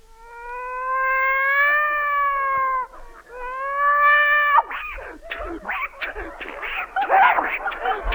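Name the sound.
cats fighting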